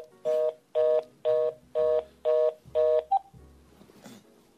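Six steady telephone keypad tones beep in an even rhythm, each about half a second long, followed by a short blip and faint background rustle. No one speaks.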